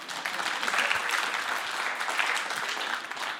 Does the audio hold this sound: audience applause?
yes